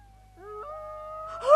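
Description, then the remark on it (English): Wolves a long way off howl on Christmas night in long, sliding tones that rise in pitch and hold steady, overlapping one another, then swell louder in a final burst over a low, steady hum. “But what if the wolves?”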